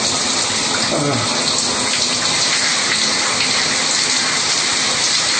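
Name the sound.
shower water running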